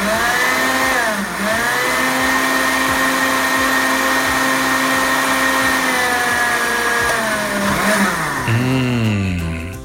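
A blender runs loudly for the whole stretch, blending strained mint tea with mint leaves, cucumber and lemon juice, its steady motor whine dipping and rising in pitch a couple of times as the contents churn. No one speaks.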